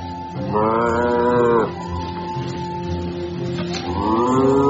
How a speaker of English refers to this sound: Moo cow, come back! You're the best moo cow in the whole world! And I love you! You're not just a cow. You're my best friend, moo cow.